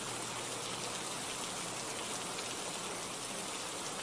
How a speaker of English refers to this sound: What does it look like I'm doing? I am sitting on a swing with the rain just pouring all over me, you know.